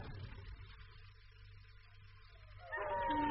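Tracking dogs break into loud, wavering howls near the end, their overlapping cries rising over a steady rumbling, hissing background that fills the earlier part of the scene.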